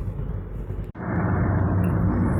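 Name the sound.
car driving in traffic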